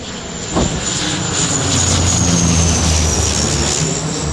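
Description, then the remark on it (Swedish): A firefighting airplane from Italy drones overhead at 4:15 as it arrives over houses threatened by fire, its engine roar building to a loud, steady rumble with a faint shifting pitch, continuous. No one speaks. “Sen får vi höra flygplanet från Italien kommer.”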